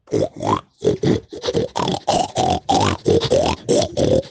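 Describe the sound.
A person imitates a pig grunting while it eats, producing a rapid series of about a dozen short, nasal grunts in an uneven chomping rhythm, fairly loud, with no other talking.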